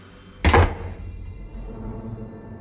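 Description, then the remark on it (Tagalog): Jim slams a door shut on the narrator with one loud, sharp thud that fades quickly, leaving a low, steady background hum with no voices. “Pinagbagsakan ako ni Jim ng pinto.”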